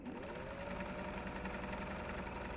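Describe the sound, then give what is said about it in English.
An industrial sewing machine runs steadily with a rapid mechanical chatter and a low motor hum, continuous throughout, with no voices. “And so a lot of my work is using an industrial sewing machine.”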